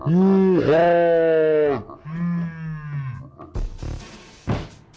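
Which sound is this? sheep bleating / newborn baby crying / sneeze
sheep bleating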